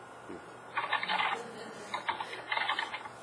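Two short bursts of rapid keyboard typing, the keys clattering in quick uneven runs, heard at moderate distance against a quiet room hum.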